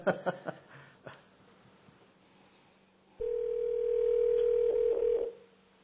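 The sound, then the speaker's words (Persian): A few soft clicks and knocks, then a steady telephone tone sounds for about two seconds, loud, as a studio control room's seventh call to the Noor TV network rings through without being picked up. “خب این بار هفتمه که اتاق فرمان میگه تماس گرفتیم با این شبکه اما کسی پاسخگو نیست.”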